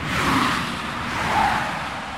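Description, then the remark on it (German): Loud, steady roar of road traffic about 1 meter beside a cyclist, with cars rushing past at 100 km/h, swelling twice as they pass. No one speaks. “Etwa 1 Meter neben mir brettern hier die Autos mit 100 km/h vorbei.”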